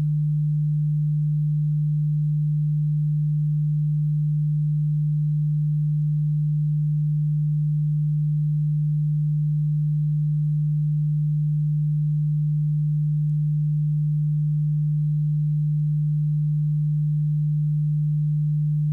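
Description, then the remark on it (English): A steady, low-pitched pure tone hums continuously without any change, a smooth unwavering drone with no other sounds or voices present. “In your right ear, I am going to play a frequency of 150 Hz.”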